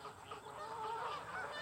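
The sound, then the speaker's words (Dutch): Geese honking on a farmyard, a steady run of nasal, overlapping calls filling a short stretch with no pauses, lively and fairly loud, with no voices present. “Er zijn koeien in de wei, eenden in de vijver en ganzen op het erf.”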